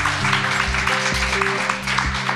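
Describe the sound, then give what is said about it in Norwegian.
Audience applause for two guests on stage at Svarte Natta: a dense, steady wash of many hands clapping that fills the whole moment, with faint sustained musical tones running beneath it and no one speaking. “Applaus til begge.”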